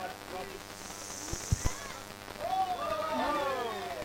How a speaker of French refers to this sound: Bon, le bruit de la pluie, c'est pas moi qui ai décidé, c'est totalement... bon, c'est pur hasard.